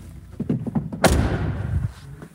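The door of a 2017 car slams shut once, loud, with a short ringing decay. A few soft thumps and rustles lead up to it, and no one speaks.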